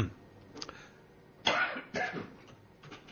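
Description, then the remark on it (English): A presenter coughs while on air: a couple of dry coughs ring out, with a sharper burst near the middle followed by another shortly after, then quiet. “How to deal with it and how to stop coughing when you're on air.”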